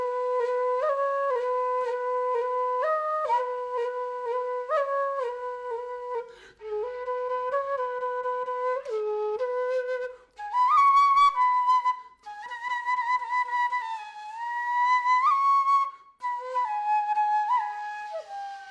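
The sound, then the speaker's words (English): A solo flute plays a slow, winding melody of sustained notes with subtle bends and quarter-tone slides between pitches, phrased in short breaths with brief pauses. No one speaks. “Somehow, there's something about that flute that sounds Indian.”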